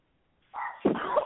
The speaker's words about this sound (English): Speaking of dogs, I hear dogs in the... I hear dogs. Okay. Yeah, that's the family pet over here.